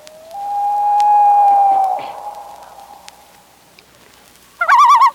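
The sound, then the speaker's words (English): A loon gives a long, steady wailing note that fades out, then after a pause a short, loud, quavering tremolo call. No one speaks. “Of course, the big thrill is usually finding our state bird, the loon.”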